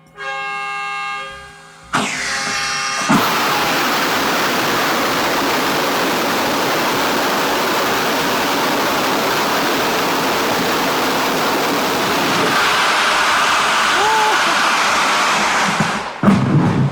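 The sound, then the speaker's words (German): A brief warning horn tone sounds, then a rocket engine test firing erupts into a loud, steady, rushing roar that holds for about fourteen seconds before cutting off abruptly. “ich darf heute bei einem Raketentriebwerkstest dabei sein”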